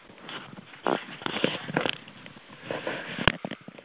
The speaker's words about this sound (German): Ihr Lieben, ich schniefe ein kleines bisschen. Wir beide schniefen ein kleines bisschen. Wir klingen vielleicht etwas seltsam,